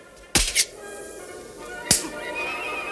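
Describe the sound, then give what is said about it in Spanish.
Sharp slapping smacks as a woman slaps her husband across the face: two in quick succession, then a third after a short pause, each crisp and loud over a steady low background hum. “Ella le da una bofetada.”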